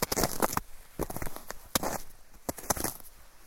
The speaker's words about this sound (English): That's my feet on the ice. Or it could be me crunching cardboard. You're going to have to decide.